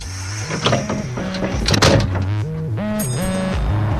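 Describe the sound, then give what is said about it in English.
A large double-decker London bus drones and whines as it drives around the city, its pitch stepping up and down as it shifts gears through traffic, with rattles and clunks over a steady rumble. “a bright double-decker London bus trundled around the city, filled with eager zinesters displaying their words and drawings”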